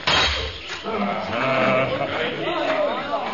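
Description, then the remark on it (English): A panther screams in a Tarzan story, a long, wavering, strained cry that rises and falls for about three seconds, harsh and bleat-like, with no talk over it. “The panther's about to scream!”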